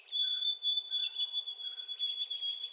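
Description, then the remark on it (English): High, thin songbird phrases from a backyard bird chirp in short bursts, a changed song ending without the usual final triplets, with a rapid twittering run toward the end, all over a steady high-pitched whine. The singing is faint, with no voices. “It never occurred to me that the birds had changed their tune.”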